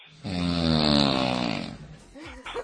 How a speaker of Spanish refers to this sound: Para mí que es una avioneta. Pues, bueno, correcto.